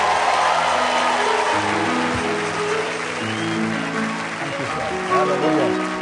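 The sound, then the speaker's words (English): A large audience claps steadily for the worship team, a dense, loud wash of hand claps with cheering voices and some tonal sounds rising over the crowd noise. “Give the worship team a good hand clap.”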